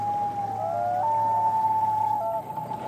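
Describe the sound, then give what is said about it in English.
A common loon's long, mournful wail: a single sustained, pure tone that steps up in pitch, holds steadily, then slips lower near the end, heard clearly over a low, steady background hum. “The sound of the loons is really haunting. I think the one that people are drawn to the most is the whale.”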